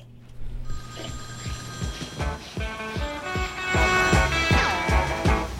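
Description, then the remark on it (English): A telephone bell rings insistently, its bright metallic clatter sustained with a rapid repeated striking rhythm, fairly loud, growing slightly stronger toward the end with no voices. “It's for you, dude.”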